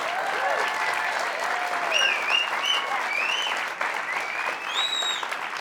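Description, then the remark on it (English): A live studio audience applauds steadily and loudly for several seconds, the dense clapping broken by scattered whoops and whistles from the crowd, during a weekly BYU basketball TV show. “Just me tossing to the audience, clapping.”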